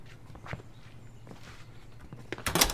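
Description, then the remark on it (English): Several soft footsteps cross at an uneven pace, followed near the end by a sharper, louder knock that sounds like a door being shut. “Shut the door.”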